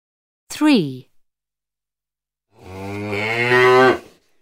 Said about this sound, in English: It's a cow.